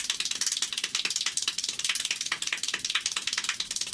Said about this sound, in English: What is that, like 20 times a second? Well, I just happen to have a little bit of audio. Would you like to hear him clapping that fast?